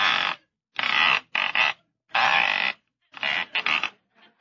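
A rotary telephone dial on a wall phone is turned again and again as someone makes a couple of calls, each pull and return giving a short, raspy mechanical whir. About six bursts come in irregular succession with brief pauses between them, and no voices.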